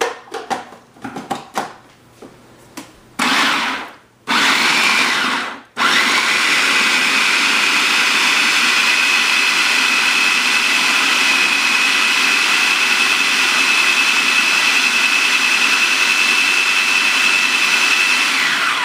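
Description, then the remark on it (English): A blender blending a batch with vinegar and lemon starts in a few short stuttering bursts, then settles into a loud, steady high-pitched whir that runs without a break for over ten seconds, with no voices. “To this, I'm just going to eyeball some vinegar, some lemon, and we're going to add the water if we need it when we start blending this.”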